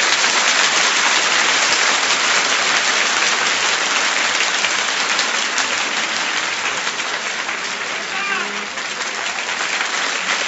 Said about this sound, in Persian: اگه بهت بگن از اون کفایی بزن که تا حالا تو زندگیت نزدی چطوری دست میزنی؟